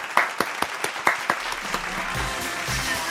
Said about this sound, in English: At the end, we always do a round of applause. Let me see you clap.